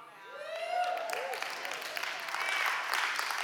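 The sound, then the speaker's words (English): An audience at a church service claps steadily for several seconds, a dense, even patter of many hands with a few raised voices calling out over it. “We're clapping now, but we would love the blind person coming in and getting saved.”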